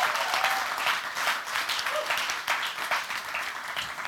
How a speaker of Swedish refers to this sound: Var det någon som blev välsignad av Simons predikan igår, så kan ni ge en applåd tycker jag i så fall.